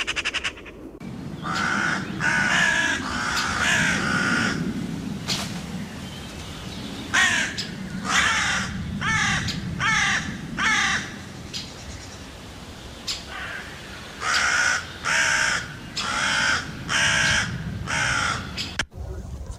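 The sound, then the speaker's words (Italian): A crow caws repeatedly in harsh, raspy bursts, grouped into three runs of several calls each with short pauses between, loud over a low outdoor rumble. “Corvo si schiarisce la gola un paio di volte.”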